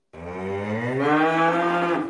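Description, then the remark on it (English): A single long, loud cow moo played as a stream sound alert, full, its low harmonic tone rising slightly midway and holding steady for about two seconds before cutting off. No one speaks over it. “Why is there a cow?”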